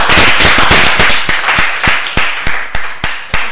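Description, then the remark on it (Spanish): Loud applause from a crowd for the football club Atlético de Madrid (Atleti), dense and crackling at first, thinning into sharp, evenly spaced claps that keep a steady rhythm until the end. No one speaks. “un aplauso al Atleti.”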